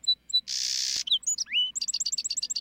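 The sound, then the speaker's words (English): A song sparrow sings one clear song: two sharp introductory notes, a harsh buzzy burst, a few varied whistles and slurs, then a rapid run of bright repeated notes. “in song sparrow populations where birds had similar songs, birds were more likely to survive and hold on to their breeding territories.”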